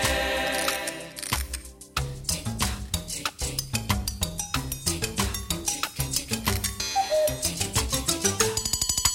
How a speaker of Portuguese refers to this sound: O tempo eu sou, e faça o que você fizer, meu. Tic-tac, tic-tac, tic-tac, tic-tac, tic-tac, tic-tac, tic-tac, não paro nem por sequer.